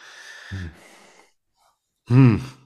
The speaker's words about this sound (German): Er schnauft. Was stecken für Gedanken hinter dem Schnaufen?